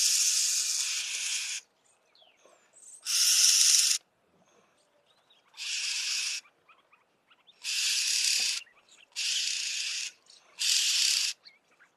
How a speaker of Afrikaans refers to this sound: Hulle is baie sosiale voëls, hulle kom gewoonlik voor in klein swermpies, gewoonlik sulke klein familietjies, en hulle is ook verskriklike vokale voëls, en hulle het 'n hele verskeie reeks van roepe wat hulle met mekaar kommunikeer.